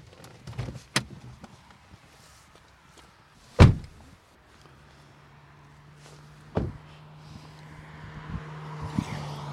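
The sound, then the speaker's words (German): A car drives past at a roadside, its steady engine hum swelling toward the end, with a few sharp thuds and clunks along the way and no one speaking. “Also an das Geräusch müssen wir jetzt uns gewöhnen, gell? Von Auto vorbeifahren.”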